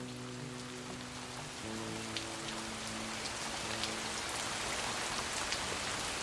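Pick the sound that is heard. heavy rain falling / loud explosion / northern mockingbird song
heavy rain falling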